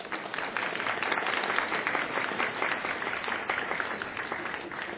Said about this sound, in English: We have a round of applause for those.